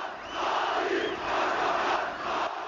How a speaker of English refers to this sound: 2002, I was in Ankara when the AKP won a stunning election victory. Erdogan, Prime Minister, shouted the crowds.